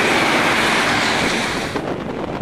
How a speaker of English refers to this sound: Holy shit. This is really fucking windy and rainy.